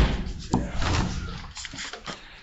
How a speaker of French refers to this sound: Une porte coup de poing. Ça s'ouvre comme ça, on met un grand coup de poing.